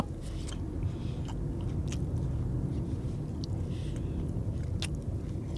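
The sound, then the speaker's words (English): Wet chewing of an oversized last bite of a snack bar, steady and continuous with sticky, crackly mouth noises and occasional sharper crunchy clicks, no talking. “This is my last bite of this fucking bar.”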